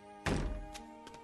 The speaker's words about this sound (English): close the door and come in.